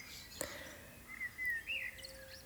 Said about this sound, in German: Und ich wünsche dir für diesen heutigen Tag alles, alles Liebe und beende das jetzt mit wunderschönem Vogelgezwitscher.